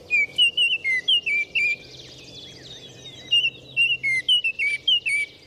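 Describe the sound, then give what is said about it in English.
A bright orange Baltimore oriole sings clear, fluty whistled notes in two quick bursts separated by a short pause, bright over a faint outdoor hiss and a low steady hum. “Biologists believe this bright orange Baltimore Oriole descended from a South American ancestor that began migrating north in search of new breeding habitats.”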